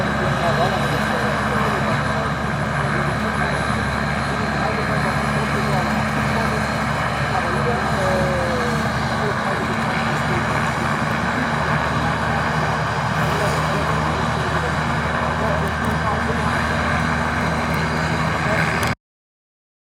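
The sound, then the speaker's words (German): A helicopter standing ready for sightseeing flights after an event drones loudly and steadily, a continuous mechanical roar of engine and rotor with a deep throbbing hum, running for nearly twenty seconds before cutting off abruptly. “Damit war der offiziell des Tages vorbei und der Hubschrauber stand bereit für Beobachtung.”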